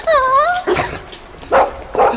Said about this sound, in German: Das sind ja Welpen. Oh, die sind ja niedlich. Und so klein. Ach, wie süß die kläffen.